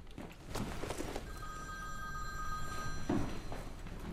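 A phone rings once in a steady, electronic trill lasting about two seconds, clearly audible over a low background hum with a few soft thumps around it.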